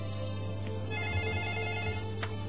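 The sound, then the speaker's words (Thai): A telephone rings with a steady electronic ringtone, sustained and fairly quiet, with no one talking over it. “เดี๋ยวอย่างไรขอรับโทรศัพท์หน่อยก็แล้วกัน”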